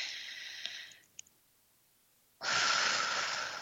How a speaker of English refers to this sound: And if you're just kind of breathing in and breathing out and just focus on that space in your body.